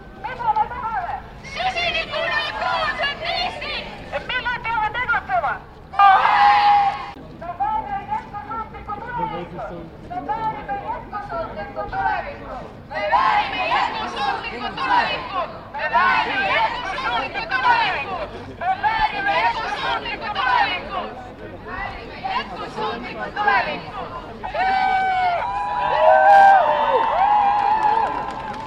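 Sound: crowd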